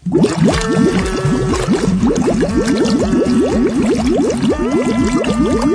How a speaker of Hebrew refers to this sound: טוב, הנה הקטע עם מים בתוך אחד השירים.